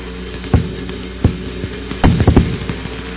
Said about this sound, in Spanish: No sé si lograban oír el ruido de los rayos. Son aproximadamente 50.000 voltios.